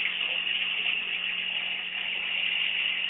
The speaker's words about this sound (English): And the water that comes out of Lewis Meek's original well is only good for some bizarre science experiments and brain-altering recreational activities.